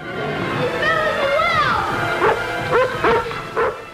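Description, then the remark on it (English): A dog whines in gliding, wavering tones, then lets out four short, sharp barks spaced unevenly over the last couple of seconds. “Can dogs communicate complex thoughts with their barks?”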